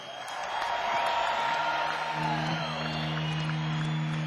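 A concert crowd applauds and cheers loudly and steadily for several seconds as the band's lead vocalist and guitarist is introduced, with scattered whoops rising above the dense clapping and a low sustained instrument tone humming underneath.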